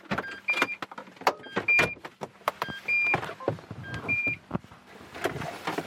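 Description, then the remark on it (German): People climbing out of a car parked in front of Haus St. Ulrich: clunks, rustling and door handling, with a short electronic chime beeping several times in the background. No one speaks. “Steigen wir aus.”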